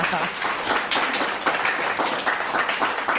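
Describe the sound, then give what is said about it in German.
Sustained audience applause welcoming Welt chief reporter Steffen Schwarzkopf, a dense, steady wash of many hands clapping at an even loudness for a few seconds, with no clear speech on top. “Wo gab es mehr Applaus, für den Fernsehpreis oder hier?”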